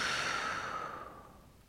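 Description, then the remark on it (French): A slow, deep breath pushed out through the mouth after a big breath taken in through the nose is held, a soft airy rush that starts fairly strong and gradually fades away over under two seconds, alone with no talking. “Ensuite, expire lentement par la bouche.”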